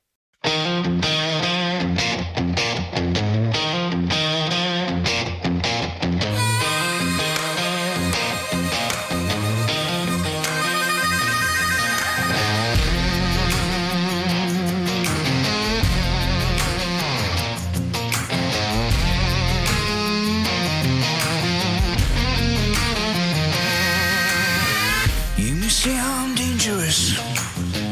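A song plays loud and continuous with a full band, bass lines and dense layered instrumentation; the arrangement fills out after the first few seconds and carries a steady groove throughout.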